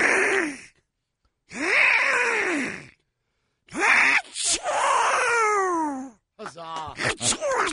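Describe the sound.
A man voices a Donald Duck sneeze: three raspy, squawking wind-up bursts separated by pauses, then a sharp explosive burst and a quick sputter of duck-like squawks.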